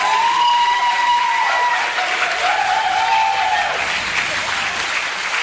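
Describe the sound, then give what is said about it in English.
An audience at a Q Hotel Group awards ceremony claps steadily and loudly for several seconds, a dense wash of applause with a faint tonal whine drifting underneath, tapering slightly toward the end. “Ladies and gentlemen, another round of applause for Peter.”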